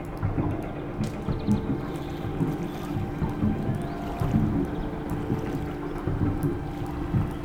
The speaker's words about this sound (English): There's a paddle boat, just a little old plastic paddle boat, two-person kind of thing.